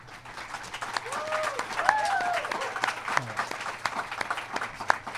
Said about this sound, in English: And I invite you to applaud only once tonight as each candidate is introduced.